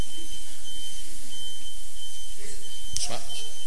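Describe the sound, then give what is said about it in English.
A truck's reversing beeper sounds a steady, high-pitched tone broken by brief gaps, repeating over rumbling background noise, with a short clatter near the end. “Sorry, it's just a truck backing up.”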